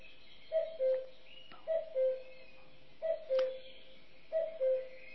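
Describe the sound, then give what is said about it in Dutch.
A common cuckoo calls four times, each a clear two-note cu-koo dropping in pitch, repeated at a steady pace over a soft outdoor hiss, distinct. “Kun je in de zomer, in april, kun je de eerste koekoek kun je ongeveer horen.”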